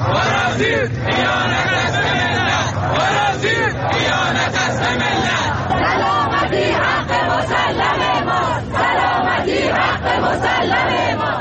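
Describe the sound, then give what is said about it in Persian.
A large crowd of protesters in Shiraz chants and shouts together in a loud, continuous roar, voices rising and falling in rhythmic bursts throughout, protesting the reported spread of jamming signals. “تعدادی از شما مخاطبان گرامی برای ما عکس و ویدیو فرستادید که در این قسمت از برنامه به قسمتی از اعتراض مردم شیراز در رابطه با انتشار پارازیت گوش می‌کنیم.”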